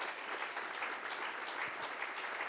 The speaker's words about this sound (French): Applaudissements, évidemment.